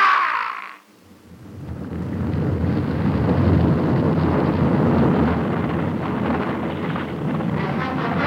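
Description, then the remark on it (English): A short hiss gives way to a deep, continuous roaring rumble of an avalanche of loosened snow thundering down sheer white slopes toward a precipice, heavy and unbroken for several seconds, with no voices. “From the shelf to the ridge and beyond it, down the sheer white slopes, the loosened snow thundering along beneath me, down the slope to the precipice, then falling, falling through space till I lost all consciousness.”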